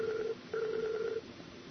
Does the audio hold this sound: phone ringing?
yes